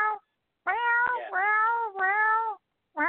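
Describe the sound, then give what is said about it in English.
A cat lets out a long, drawn-out, wavering meow at nighttime, with the tail of an earlier meow just before it and the start of another at the very end. No one speaks. “Kitty says hello too. In the background.”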